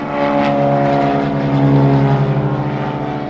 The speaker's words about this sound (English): At the South Valley Regional Airport in West Jordan, the buzz of small planes can be heard all around.